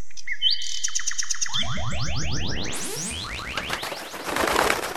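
A nightingale sings loud: bright whistled notes and rapid repeated chirps, then dense, tumbling trills and sweeping phrases that continue without pause, with no voices present.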